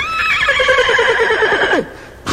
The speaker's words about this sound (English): Here's Henry the horse.